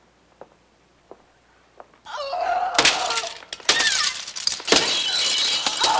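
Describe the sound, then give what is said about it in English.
Glass perfume bottles on a vanity table in an apartment bedroom smash and crash repeatedly, loud, after a couple of seconds of near-silence with a few soft ticks; the clatter of breaking continues in bursts to the end. “Inside, Holly smashes perfume bottles, knocking Cat off her vanity table.”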